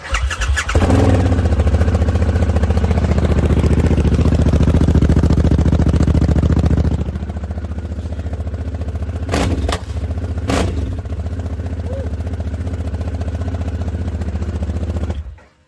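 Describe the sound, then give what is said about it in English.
A motorbike engine cranks and catches, then settles into a loud, steady idle, with a couple of sharp clicks or clatters partway through before it cuts off. “So this is it coming on.”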